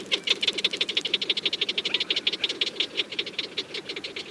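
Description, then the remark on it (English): White-tailed prairie dog calls, recorded with a large parabolic microphone at Deseret Ranch in northern Utah: a fast, steady series of sharp, chattering chirps repeating several times per second, with a high squeaky edge over a lower buzzy tone, continuing throughout without any voices. “These white-tailed prairie dogs might have been laughing at producer Jeff Rice as he recorded their calls with a large parabolic microphone in Deseret Ranch in northern Utah.”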